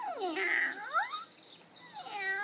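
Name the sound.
cat meowing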